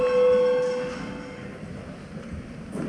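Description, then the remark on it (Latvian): A parliament voting bell in the Latvian Saeima, rung before a vote on a proposal, sounds one steady, mid-pitched ringing tone for under a second, then fades away, leaving a low murmur of background noise. “Lūdzu, zvanu.”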